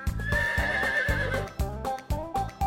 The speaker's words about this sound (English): Which animal is that? Who makes the sound? A horse!